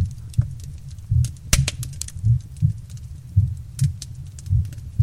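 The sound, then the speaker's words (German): A man's slow, steady, calming heartbeat, heard against his chest, thumps low in a relaxed lub-dub rhythm, about five beats over a few seconds, with faint crackles and clicks in the background. “Und dabei hörst du seinen beruhigenden Herzschlag.”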